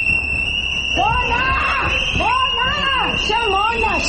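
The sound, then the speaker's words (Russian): An anti-government protest crowd at the parliament of Georgia, during the vote to confirm the prosecutor general, shouts in rising and falling bursts of raised voices, while a steady high whistle runs through the whole stretch over a constant murmur. “Свист, крики, плакаты с изображением Шарикова, персонажа «Собачьего сердца» Михаила Булгакова.”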